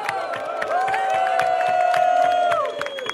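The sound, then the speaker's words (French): An audience at a game organized by Attac France claps and cheers loudly, with steady rapid applause and a sustained high whoop rising over it, the noise filling the whole moment without any talking. “C'est une jolie contrepartie sociale qu'on applaudit.”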